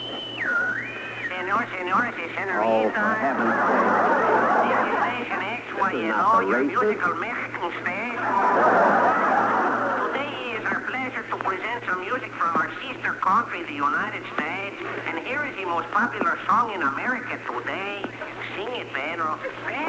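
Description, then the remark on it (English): A radio dial being turned between stations while trying to find the right station, with sweeping whistles, bursts of static and snatches of garbled voices sliding in and out, loud and continuous throughout with a steady low hum underneath. “Can I get the right station?”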